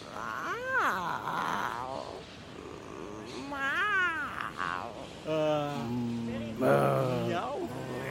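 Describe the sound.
A cat meows in a series of long, drawn-out, wavering cries, three or four in a row with short gaps, fairly loud and low-pitched for a cat.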